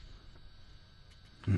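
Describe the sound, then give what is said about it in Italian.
After a stretch of faint background hush, a loud telephone ringing tone on a call abruptly begins right at the end, the fifth ring, a steady low electronic beep heard through the line. “La tensione quinto sale.”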